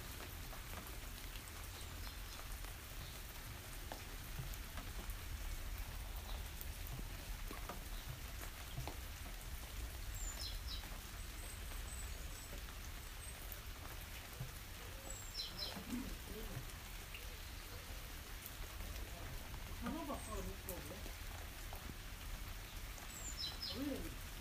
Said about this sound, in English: Heavier than drizzle, I guess. It's steady.